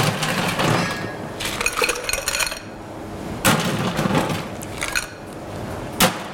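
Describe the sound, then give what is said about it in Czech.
Ice cubes clatter into a cocktail glass as it is filled with ice for a cocktail, in several bursts of bright clinking and cracking, with scattered smaller chinks between the louder drops and no talking. “Dobrá, teďka si to naplníme ledem.”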